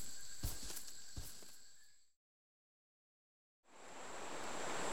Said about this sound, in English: Whoa! The water's moving really quickly. What a fantastic waterfall.